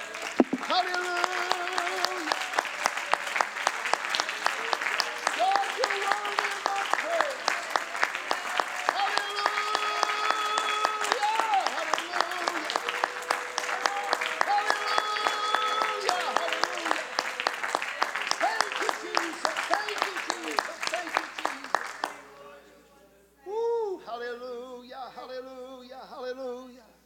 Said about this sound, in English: Yeah, thank you, Jesus. Thank you, Jesus. Can somebody give him a hand clap of praise?